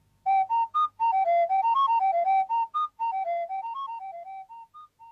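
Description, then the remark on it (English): A quick tune played on hollow, breathy tones made by blowing across the top of a small bottle, recorded and played back at various tape speeds to get the notes: a steady run of about twenty short notes stepping up and down in pitch, fairly loud and heard alone, tapering softer toward the end. “This was made by blowing across the top of a small bottle.”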